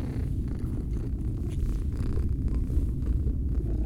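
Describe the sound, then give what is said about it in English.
A small cat purrs steadily on an evacuation ship, a low continuous rumbling drone with a gentle pulsing rhythm, heard on its own without any talking. “So in all that panic, you managed to sneak onto this evacuation ship? Smart little kitty.”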